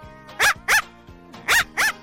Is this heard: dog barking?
yes